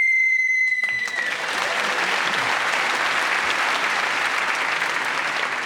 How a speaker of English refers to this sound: Well, I'm … speaking as the whistle went, gets the point, and also the next subject